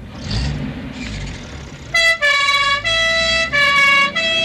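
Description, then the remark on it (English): After a couple of seconds of low traffic rumble, an old-style 1960s two-tone ambulance siren blares, its loud, buzzy horn notes alternating in steady repeated blasts. “Here's what ambulances sound like in the 60s.”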